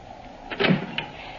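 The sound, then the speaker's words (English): A door opens to let a visitor in, with a short rattling, scraping swell followed by a single sharp click as the latch catches, moderately quiet, with no voices. “Go in your room. I'll let him in.”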